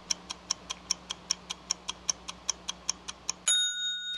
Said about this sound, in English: Ah, the sound we have come to love on this program, the ticking and the bell that can only signify one thing. 3-Minute Fiction is back.